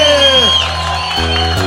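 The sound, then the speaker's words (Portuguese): A loud crowd cheers and shouts after a live song performance, answering the singer's call to make noise, with rising whoops over a steady wash of sustained musical tones, lasting under two seconds. “Quem gostou faz barulho aí.”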